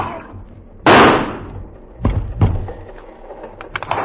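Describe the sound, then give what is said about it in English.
A loud gunshot, fired from a gun in a dim train compartment, blasts out and rings off over about a second, followed by two sharper, quieter shots in quick succession and a few faint clicks afterward. No one speaks. “I felt something hard under me, the gun. In the dim compartment, I saw them coming at me, Chiniara and Dvikar. I raised the gun.”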